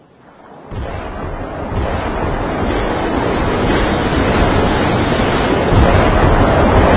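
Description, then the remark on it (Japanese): A loud, steady roar of surf and rushing seawater, as the sea recedes from the Odaiba coastline in Tokyo, begins abruptly after a brief quiet moment and continues without a break, with no voices. “海水が引いている。”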